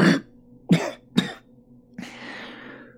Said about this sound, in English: I cough up something wet and bloody. The priest gives me a tissue from the bedside table.